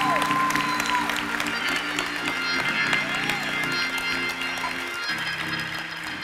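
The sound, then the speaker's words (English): A large church audience applauds steadily for several seconds, giving a hand clap to the Lord, dense overlapping hand claps, with sustained keyboard-like tones and a few indistinct voices underneath. “If you believe that, give the Lord a hand clap in the next 30 seconds.”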